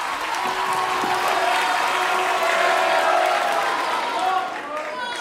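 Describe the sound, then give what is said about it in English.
A large crowd at Townsend Harris applauds and cheers as a performer playing Trump rides a hoverboard onto the stage, glides to the center, stretches out his arms and spins around; a dense, steady roar of clapping mixed with shouting voices that stays loud for several seconds before easing slightly near the end. “And he just glided right into the center of the stage, and he stretched out his arms, and he spun around and around, and the crowd went nuts.”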